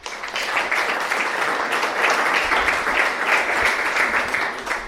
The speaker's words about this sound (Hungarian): Oké, szeretném bemutatni az itt jelenlévő bátrakat, és a bátraknak először egy nagy tapsot szeretnék kérni már az elején.